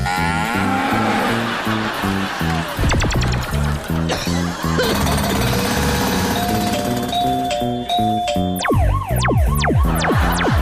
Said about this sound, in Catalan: Aquest teclat electrònic, on sona?